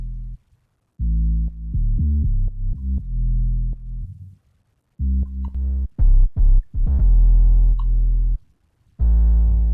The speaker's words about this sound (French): Donc le son naturel de la 808, c'était ça.